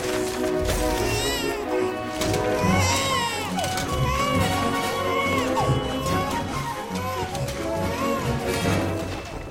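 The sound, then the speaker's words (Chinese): A baby, frightened by a cook throwing pots, pans and dishes, cries and wails in rising, wavering bursts throughout, loud, over a dense, clattering background of commotion. “倒是婴儿被吓得开始哇哇叫。”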